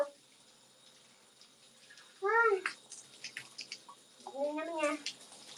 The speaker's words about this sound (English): Also, because I keep talking in the shower, water keeps getting in my mouth, and I have to spit it out.